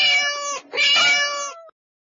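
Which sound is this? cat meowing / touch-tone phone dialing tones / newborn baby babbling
cat meowing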